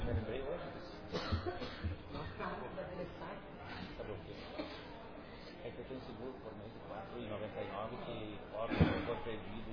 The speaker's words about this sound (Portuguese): Vai começar minha tosse?